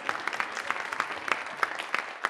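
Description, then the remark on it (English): A group claps steadily for a couple of seconds, a dense patter of many overlapping hands with a few sharper claps standing out, at moderate loudness and with no talking over it. “Now give them a round of applause.”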